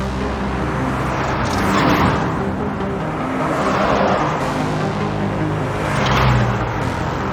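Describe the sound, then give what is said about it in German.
Steady traffic on the busy Steinbachstraße in Homburg-Erbach, Germany, with cars swelling past one after another, a broad rushing roar rising and fading about every two seconds, no voices. “Die Steinbachstraße war schon immer eine vielbefahrene Straße.”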